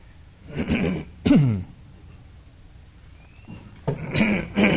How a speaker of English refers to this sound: Now you're all going to feel like you have to clear your throat, right? Did you ever do that? Somebody clears their throat and everybody goes... it's whatever the winds blew in yesterday, okay? That's what I'm reacting to.